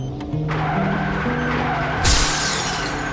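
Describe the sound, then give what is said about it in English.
Car tires skid loudly across pavement, a long rising screech over engine rumble, ending in a sudden harsh burst of noise as the car hits a person. “There wasn't much left of it after the car hit me, though.”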